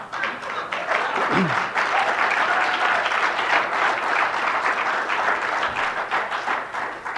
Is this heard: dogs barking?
no